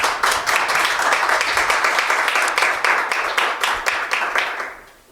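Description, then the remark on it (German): A crowd applauds steadily at the end of a talk at an event, a dense wash of many hands clapping at an even, fairly loud level, fading out over the last half second. “Bevor es Fragen gibt, erstmal noch ein großer Applaus und vielen herzlichen Dank.”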